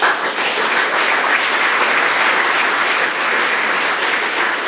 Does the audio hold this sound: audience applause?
yes